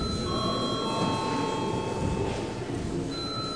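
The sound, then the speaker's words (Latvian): A parliament's electric session bell rings without pause for several seconds, a sustained high tone over a low murmur of background noise, with no one speaking. The chair calls for it before a vote at an extraordinary sitting. “Lūdzu zvanu.”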